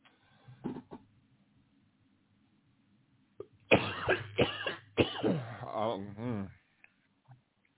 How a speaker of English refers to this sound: I don't know why I got a cough now, but, you know, hey, it is what it is.